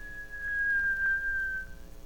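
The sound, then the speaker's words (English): A man pushes a window open and gives a single shrill whistle, held at a steady, piercing pitch for about two seconds and sagging slightly at the end before cutting off. It sounds alone, with no talking. “He pushed it open and gave a shrill whistle.”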